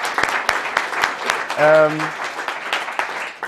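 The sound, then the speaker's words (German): A crowd gives itself a big round of applause after a turbulent year, a dense wash of clapping with sharper individual claps popping out, and a brief sustained cheer or whoop rising over it midway. “Deswegen will ich erstmal einen riesen dicken Applaus an euch.”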